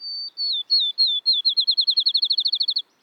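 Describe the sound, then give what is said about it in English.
A field sparrow sings alone, a few clear, sweet whistled notes that speed up into a quick, even trill, like a bouncing ball settling, distinct. “Maybe it has a bright white ring around its eye, like this field sparrow.”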